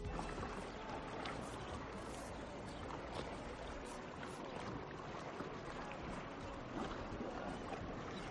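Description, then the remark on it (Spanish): Sea waves wash and break steadily against the rocky coves of Menorca, a continuous broad roar of surf and splashing water with no voices, fairly loud throughout. “Esto que escucháis para mí es vacaciones, el sonido del mar rompiendo sobre las calas de Menorca.”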